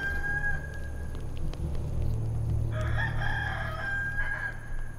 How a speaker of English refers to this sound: Before the cock crows twice, you will deny me three times.